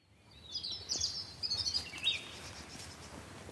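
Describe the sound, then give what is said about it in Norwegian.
Birds chirp and trill in a forest, several high, bright calls overlapping over a soft, steady outdoor background of wind blowing in the trees, with no voices. “Bare hør på fuglekvitringen.”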